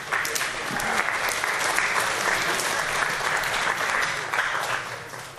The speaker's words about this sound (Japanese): 雨ちゃんを、はい、拍手。